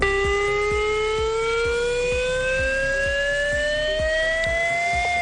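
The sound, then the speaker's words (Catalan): A civil defense chemical-risk warning siren, sounded in 22 municipalities during a morning drill, wails loudly and continuously, its tone slowly climbing in pitch, with faint regular low thuds underneath and no voices. “les sirenes han sonat a les 22 municipis on s'ha fet aquesta prova aquest matí i ho ha fet d'aquesta manera.”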